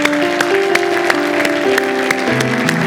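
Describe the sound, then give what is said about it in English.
A church audience claps hands together in a steady, even rhythm, sharp beats landing about three times a second over sustained keyboard or organ music. No one speaks. “You can clap your hands.”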